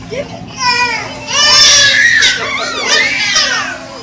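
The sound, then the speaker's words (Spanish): Two babies wail loudly, their high, warbling cries rising and falling in long, strained bursts that overlap and continue almost without pause after a quieter start, in reaction to a dancing red puppet toy. “El llanto llega y solo cuando se detiene el rojizo muñeco, la paz inunda el ambiente.”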